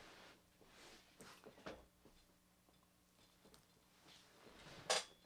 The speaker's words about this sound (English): On my squeaky chair.